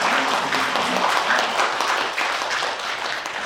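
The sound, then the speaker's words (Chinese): An audience at a Christian worship service applauds together to welcome newly baptized members, a dense, steady wash of many hands clapping at once, sustained throughout and fading slightly toward the end. “啊，我们愿意在这边共同的这个勉励，也共同的扶持，所以我们大家一起拍手，我们欢迎你们的。”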